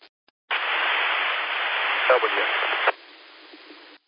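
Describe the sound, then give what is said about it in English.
An amateur radio transceiver keys up with its WIRES button turned on, a burst of loud, band-limited static lasting about two seconds with a thin steady high beep running through it, then drops to a quieter hiss before cutting off. “Okay, somebody keyed up and their wires button is turned on, so it just beeped, and then I heard a W, and that's all I heard.”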